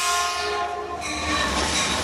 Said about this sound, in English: So there's a train coming. Whoop de doo. Train's going by still. Long ass train.